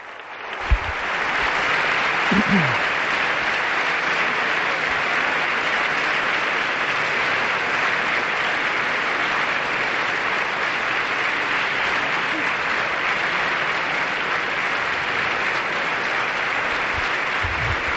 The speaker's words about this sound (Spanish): la ovación a la Constitución Española en este patio de los invitados.